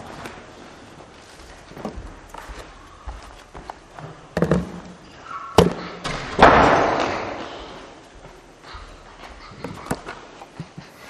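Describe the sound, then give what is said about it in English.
A door is pushed shut with a heavy thud, preceded and followed by a few scattered knocks and bumps against a faint, rustling room background. Nobody speaks. “close the door.”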